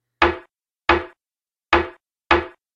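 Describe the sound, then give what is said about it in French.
A Swiss beadle at the sacristy door of a church strikes the wooden shaft of his halberd against the stone pavement four times, each blow a sharp, hollow thud with a short ring, spaced unevenly against silence. “Un silence se fit en effet, parce que le Suisse paraissait à la porte de la sacristie et frappait contre le pavé la hampe de sa pacifique hallebarde.”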